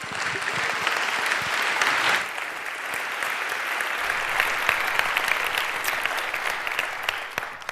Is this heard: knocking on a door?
no